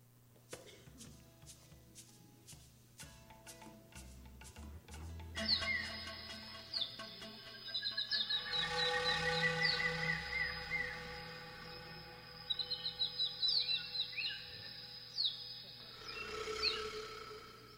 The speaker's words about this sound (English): And whether you believe in creation or evolution, this is a bird that you have to see when you go down to the neotropics, the Watson or Hoatzin, however you like to pronounce it.